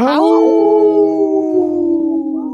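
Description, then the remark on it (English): A person imitates a wolf with one long, loud howl on the radio show Native Roots Radio, starting with a sharp rise and then sustaining a steady tone that sinks slightly in pitch. “got a howl in, too, off camera here.”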